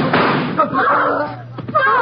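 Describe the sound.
A gunshot cracks out as a short, sharp bang amid loud, agitated voices, with a second quick impact sound following near the end.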